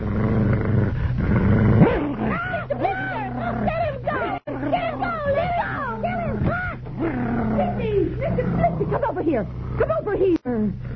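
dog growling and barking

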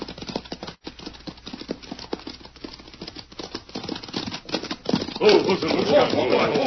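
horse hooves clip-clopping away

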